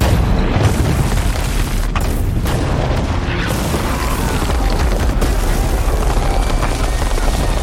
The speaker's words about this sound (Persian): نیروهای توپخانه محمد بمباران بیامان را بر دیوارهای قسطنطنیه ادامه دادند.